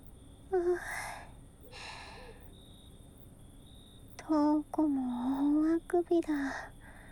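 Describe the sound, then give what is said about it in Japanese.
A husband gives a big yawn: two breathy inhales, then a long, voiced, drawn-out groan that slides downward and breaks off in short bursts, fairly loud over a faint steady background hum. “旦那さん、大きなあくび。”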